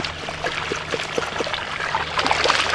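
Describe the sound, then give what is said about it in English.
Watery sloshing and trickling as a net is dipped through shallow wetland water to find salamander larvae, with small splashes and drips dotted over a steady, moderately loud wash of water. No voices. “We put the net down into the water until it gets...”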